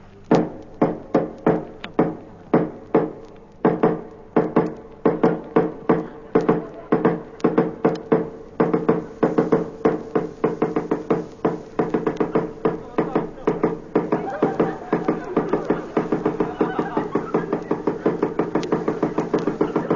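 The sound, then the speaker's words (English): Sharp knocks on a door repeat rapidly and insistently, a steady rhythmic pounding that grows denser and quicker toward the end, loud with no voices. “House as instructed. I knocked 6,000 times.”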